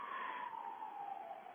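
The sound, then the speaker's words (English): An ambulance siren wails steadily, its single tone sliding slowly downward as it passes, with no voices over it. “Nothing like hearing an ambulance in the background.”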